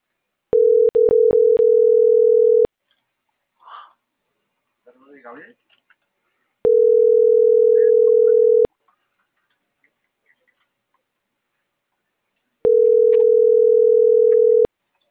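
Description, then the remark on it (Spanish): A phone line rings out with three long, steady electronic tones, each about two seconds with silent gaps between, preceded by a few quick clicks and faint rustling in the pauses, while someone keeps dialing a regular phone call, not a WhatsApp call, that goes unanswered. “Acá le sigo marcando todavía.”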